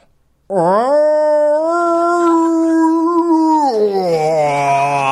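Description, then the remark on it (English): A person imitates a distressed cat's yowl, the noise a cat made on an airplane once airborne: one long, loud, strained wail that swoops up, holds a steady pitch for several seconds, then sags lower toward the end. “And on the plane, the cat started, once we were airborne, the cat started making a noise that sounded kind of like this.”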